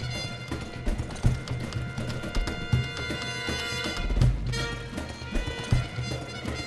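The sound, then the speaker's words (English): In an opera, a galloping horse's rapid, rhythmic hoofbeats are electronically transformed and gradually morph into the sharp, stamping heel strikes of a flamenco dance, loud, with no voices. “So, for instance, I have a horse galloping and that gallop becoming a flamenco heel dance.”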